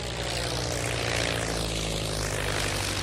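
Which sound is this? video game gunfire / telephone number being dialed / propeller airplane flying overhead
propeller airplane flying overhead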